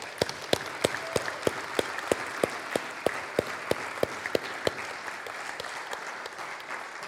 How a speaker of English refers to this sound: You can applaud if you want to.